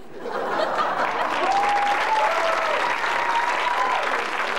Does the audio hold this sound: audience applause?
yes